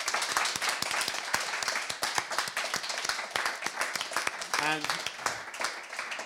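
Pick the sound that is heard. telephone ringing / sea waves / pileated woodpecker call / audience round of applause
audience round of applause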